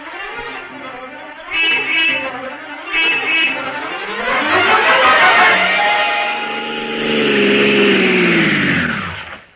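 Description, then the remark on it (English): A taxi engine rumbles as the car drives off, leaving for the Columbia Broadcasting Studios, revving up with rising pitch, then winding down with a falling whine toward the end; two short higher bursts sound early on. “Sergeant, get a taxi.”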